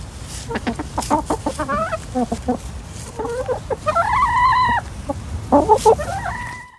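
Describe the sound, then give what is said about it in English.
Several backyard chickens belonging to author Tova Danovich, in the U.S., cluck and squawk in quick, overlapping bursts, with a longer drawn-out call near the middle and another rising call at the end, over a low steady background rumble. “And these are a few of Tova's chickens.”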